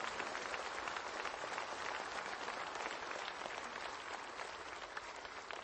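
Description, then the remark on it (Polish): Sustained audience applause for Cardinal Wyszyński, a dense steady clatter of many hands clapping at an even loudness throughout, with no talking over it. “To dla niego, dla kardynała Wyszyńskiego to oklaski.”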